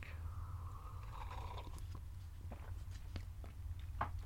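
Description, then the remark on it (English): A quiet sip of coffee: a brief airy slurp near the start, then soft mouth and swallowing clicks over a steady low background hum, with no talking. “Let me take a sip of coffee.”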